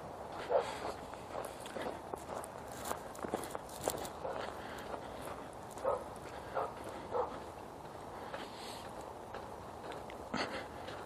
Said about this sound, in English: And there's dogs. What a surprise. Oh, there's dogs on both sides of the street. Woohoo! Bonus dog day.